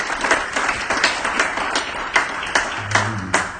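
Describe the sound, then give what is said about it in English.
An audience at a worship service applauding together, a dense, steady wash of hand claps with sharper individual claps standing out, sustained at moderate loudness with no talking. “So let's give yourselves a hand clap of praise.”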